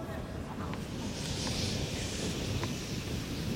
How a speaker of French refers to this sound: Et de nouveau une bourrasque qui lève de la terre battue partout, qui balaye vraiment le cours. C'est la première fois qu'on voit ça cette semaine.